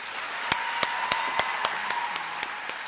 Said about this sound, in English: The applause is for Ronan Farrow.